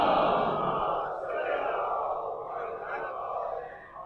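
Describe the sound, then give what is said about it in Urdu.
A large crowd recites salawat (blessings on Muhammad and the family of Muhammad) together in one loud, sustained chant, many voices blending into a steady roar that swells and then fades slightly toward the end. “مل کے درود بھیجے محمد و آل محمد.”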